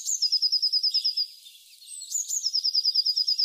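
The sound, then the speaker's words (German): A blue tit sings two quick, high-pitched trills of rapidly repeated chirps, separated by a brief pause, clear with no one talking. “Und dann habe ich noch Zwitscher, Zwitscher gehört. Ich glaube, du meinst die Blaumeise.”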